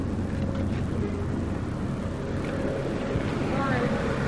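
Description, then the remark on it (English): A street sweeper rumbles past with a steady, droning engine and low mechanical hum, holding an even loudness throughout, with faint muffled voices underneath. “The street sweeper's coming in.”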